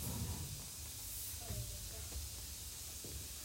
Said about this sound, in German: Ein Feuerwehrmann löscht flink den Adventskranz.